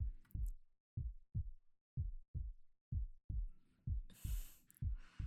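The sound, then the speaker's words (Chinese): A muffled heartbeat thumps steadily in lub-dub pairs, about six beats over a few seconds, with a brief burst of airy hiss near the end. “你的心跳又冷了”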